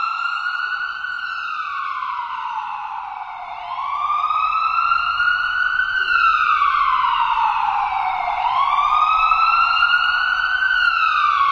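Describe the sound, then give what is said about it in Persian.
A loud siren of an ambulance, dispatched through the 115 emergency service after a worker was electrocuted at a worksite, wails, its pitch sweeping slowly up and down in long repeating cycles, with no voices, only a faint low rumble underneath. “اتفاقا اداره برق هم با اورژانس 115 تماس میگیره و درخواست اعزام آمبولانس میکنه.”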